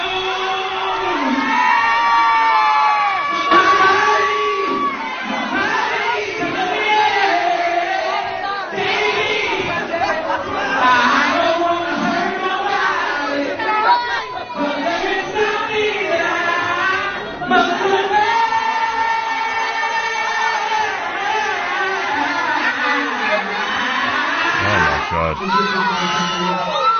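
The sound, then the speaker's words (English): A dense, lively crowd, mostly young women, at a live performance in an Illinois nightclub chatters, whoops and cheers throughout, with overlapping shouts and yells forming a continuous loud roar of voices. “But who's cheering?”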